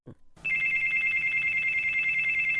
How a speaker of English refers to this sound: The play starts at a restaurant where Jean is eating and reading quietly. The cell phone of the man at the next table starts to ring.